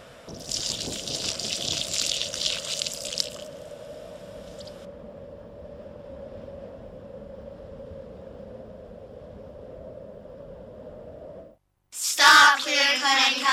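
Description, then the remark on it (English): Water gushes steadily for about eleven seconds with a hissy, splashing rush at first that settles into a constant flowing drone, then cuts off abruptly before music-like sounds begin. “How would you like your water filtered? Like this?”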